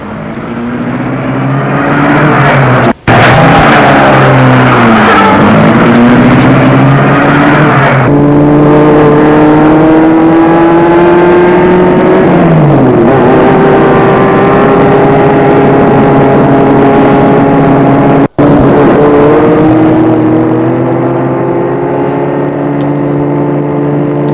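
A car engine runs loud, revving up with rising and falling pitch as the car, carrying three men, pulls away and accelerates through its gears. Nobody speaks.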